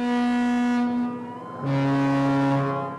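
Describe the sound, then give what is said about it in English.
Two deep, sustained blasts from the horn of the Sea Voyager, a nearly 300-foot cruise ship docked just off St. Mary's riverfront campus in St. Mary City, Maryland, sounded as an emergency signal: the first a steady low tone that fades, then a second lower, richer blast that holds strong before trailing off. No voices. “The deep tubatutes come from the Sea Voyager. It's a nearly 300-foot cruise ship that's docked just off St.”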